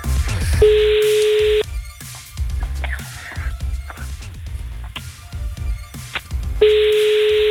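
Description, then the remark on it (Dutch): An outgoing phone call's ringback tone sounds twice, a steady buzzing tone lasting about a second each time, several seconds apart, over rhythmic background music. “Jongens, we gaan bellen”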